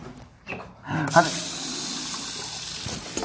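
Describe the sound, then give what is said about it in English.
A tap is turned on and water gushes out in a steady, bright hiss that runs unbroken for a couple of seconds, with a brief voice sound just as the flow starts, as someone gets some water to drink. “I'm getting some water.”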